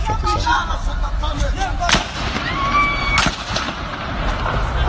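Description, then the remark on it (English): Two sharp, loud cracks of Kalashnikov rifle gunfire, aimed towards a group of people in a community neighborhood in Montpellier, France, ring out about a second apart over a dense, noisy background of voices, with a high, wavering cry of a woman screaming in fear rising between the shots. “Here's a person with his Kalashnikov, which is illegal in France to own, towards a group of people in a community neighborhood in Montpellier in France, and a woman screaming out of fear.”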